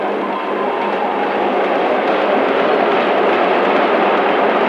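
A train rolls steadily along the rails with a continuous, loud rumbling roar that holds constant throughout, with no voices.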